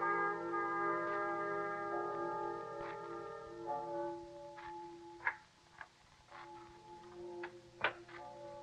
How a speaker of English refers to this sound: Tell me, what do the bells ring for? The dead.